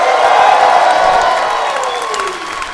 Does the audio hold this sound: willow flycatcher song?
no